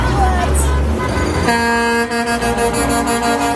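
Loud truck air horns blare in overlapping, sustained blasts, one after another, over a rumbling vehicle engine and a noisy outdoor crowd, as a line of trucks carrying holiday gifts for children arrives outside Temple's Leocora Center in North Philly for the Children's Holiday Party.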